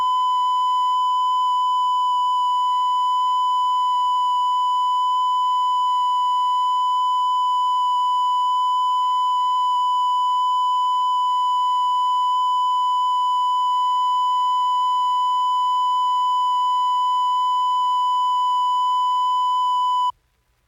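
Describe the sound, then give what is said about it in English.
A steady 1,000-cycle test tone recorded with considerable distortion to check a sound system, sounding harsh and buzzy instead of pure. It holds at constant loudness for about twenty seconds, alone, then cuts off abruptly. “And here it is again with considerable distortion.”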